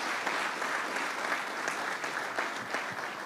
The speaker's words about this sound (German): Man kann Gott Applaus geben.